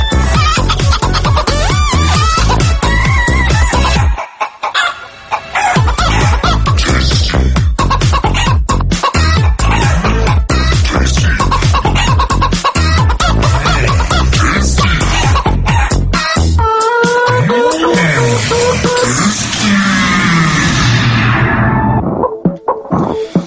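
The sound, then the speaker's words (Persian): A hen that has just woken up clucks loudly and insistently in rapid, repeated bursts, a busy cackling that sounds like egg-laying, continuing nearly the whole time with only brief pauses and no talking. “فکرم داشت تخم میذاشت. تخم مرغ هم الان گرون شده”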